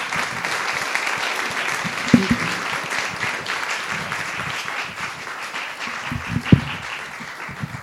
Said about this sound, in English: So we just give them a round of applause.